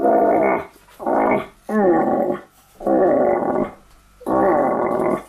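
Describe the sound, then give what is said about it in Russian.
A hunting call instrument imitating a deer's rutting call to lure it: five loud, hoarse, groaning bellows, each under a second, repeated in a steady rhythm with short pauses, with no talking. “Оленя подзывают.”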